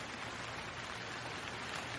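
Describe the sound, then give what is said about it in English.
Heavy rain from a storm pours down outside in a steady, dense hiss that never lets up, loud, with no voices or other sounds breaking through. “A long silence, where all you could hear was the pounding rain from the storm outside.”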